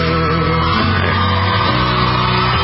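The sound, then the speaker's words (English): Shrill children's screams and yells carry on continuously in the background, loud and overlapping, layered over a dense, steady wash of other sound for the whole stretch. “This stuff, these screaming kids in the background, is so distracting.”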